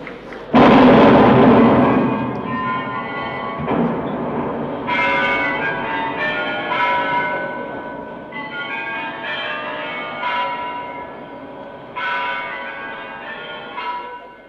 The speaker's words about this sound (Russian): Пусть бьют куранты в этом зале. Салюта пушки пусть слышны.